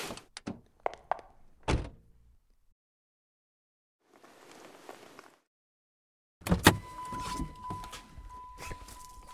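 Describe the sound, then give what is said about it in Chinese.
A car door is unlocked with a few quick clicks and a thunk, then after a soft rustle the door swings open loudly, followed by a steady electronic chime. “快开门，我不行了，要吐你车上了。”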